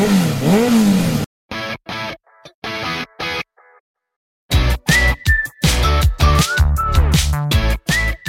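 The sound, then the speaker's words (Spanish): A motorcycle engine revs in short, choppy bursts separated by brief silences, then roars loudly and steadily, its pitch climbing and dropping as it surges through several gear changes. “Arranca tus motores y sal de la rutina a golpe de gas.”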